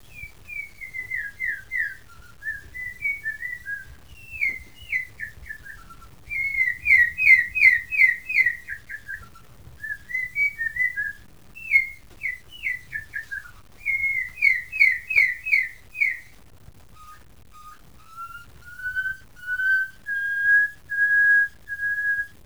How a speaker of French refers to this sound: fait par Claude Chapuis en Afrique, d'un oiseau que j'aime énormément, le cossif à ailes bleues, qui est très très surprenant parce qu'il a non seulement un art de la construction musicale, mais aussi un timbre d'instrument humain, si j'ose dire.